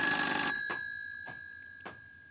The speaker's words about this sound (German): Bisschen Ruhe. Und natürlich klingelt an das Telefon. Geh mal gucken.